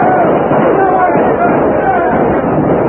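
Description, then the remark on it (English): A dense, chaotic barrage of gunfire from Cheyenne riders on racing ponies attacking a wagon train blends with shouting voices in a loud, continuous, muffled roar, with shots overlapping too quickly to count. “taken by surprise, the men of the wagon train sprang to whatever cover they could find as the frenzied Cheyennes, leaning low on their racing ponies, quickly formed a fast-moving circle around the wagons, firing guns and shooting arrows as they rode.”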